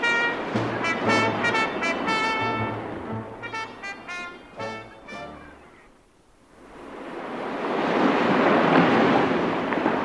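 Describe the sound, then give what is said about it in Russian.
Loud, rushing sea surf swells up and washes steadily through the second half, after an opening stretch of sustained, horn-like tones and a brief lull. “И волна кипит, и труба трубит, трубит, трубит, трубит, трубит.”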